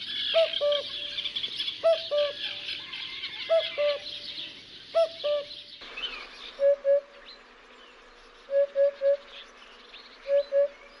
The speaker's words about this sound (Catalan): i el primer que vindrà és el cucut, i el segon, la puput.